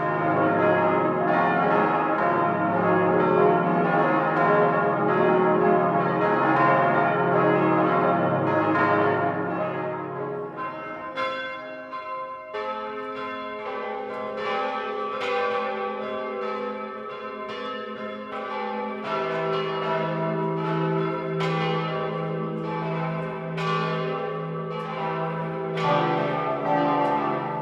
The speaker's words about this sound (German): In den vergangenen Monaten wurden unter großem Aufwand die Läuteanlage saniert, der gotische Glockenstuhl verstärkt und die Turmstatik verbessert, um wieder alle Glocken gemeinsam und in voller Pracht läuten lassen zu können.